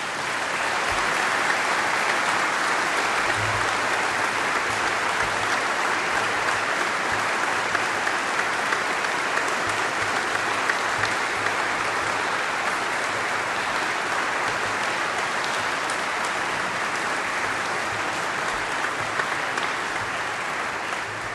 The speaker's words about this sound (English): I'm sorry I did not measure the time of the applause, but it was quite good.